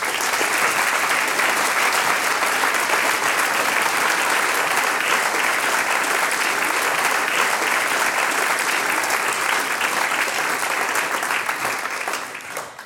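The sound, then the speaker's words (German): Sustained audience applause for music school director Robert Ederer, organiser of an event held by the municipality and spa commission of Bad Blumau, dense and steady clapping from a large crowd for about twelve seconds, tapering off slightly at the very end. “Das ist ein Applaus.”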